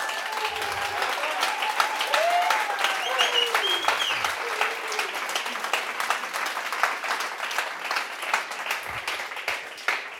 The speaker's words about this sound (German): Er hat den allergrössten Applaus verdient heute Morgen.